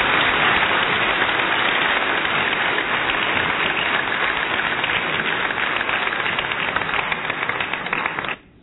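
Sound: audience clapping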